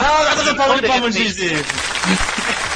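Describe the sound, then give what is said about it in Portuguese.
A round of applause, a dense steady patter of clapping lasting a few seconds, with people talking and laughing loudly over it. “Salve de palmas.”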